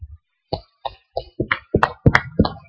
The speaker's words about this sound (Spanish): Let's give a round of a hand of support for our teenagers, for our students. Let's give a round of support for our students. Por lo tanto, tenemos que démosle un fuerte aplauso a los jóvenes.